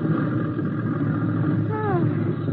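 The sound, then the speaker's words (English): A small plane's engine drones loudly and steadily as it comes down to land in a small field, with a few whining tones sliding downward in pitch near the end. “I'm going to set her down.”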